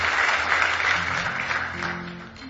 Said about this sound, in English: Give Him a big hand clap of praise if you love Him tonight. Amen.